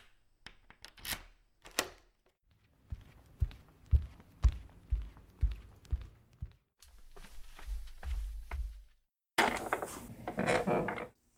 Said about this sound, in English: Unlock front door for you.